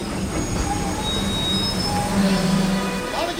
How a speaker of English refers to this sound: As the passengers from Ahabad clamber down from the train with the usual noisy pantomime